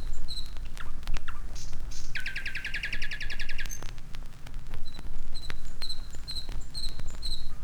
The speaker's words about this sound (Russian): Послушайте ночное пение соловья на берегу Москвы-реки, недалеко от Звенигорода.